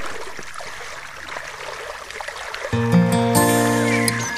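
Irregular splashing and sloshing of water for a few seconds as people splash in a forest retention reservoir in Poland, fed by a natural stream flowing to the Ołobok River, with no talk, before a loud sustained musical chord cuts in and holds to the end.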